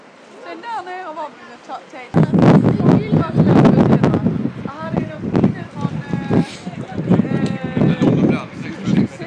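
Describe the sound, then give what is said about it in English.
Strong wind blows outdoors on a grey, not too cold day in London, buffeting the microphone with a loud, rumbling roar that starts abruptly after a couple of seconds and gusts unevenly, while voices are heard faintly throughout. “It's a bit grey. It's not too cold. It's very windy.”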